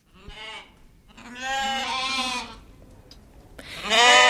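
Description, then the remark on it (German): Sheep and goats on a farm with about 200 sheep and 3 goats bleat in three loud, wavering calls, one short and two longer, with brief quiet gaps between them and no talking. “In diesen Tagen kommen die gut 200 Schafe und 3 Geissen aber Konkurrenz über.”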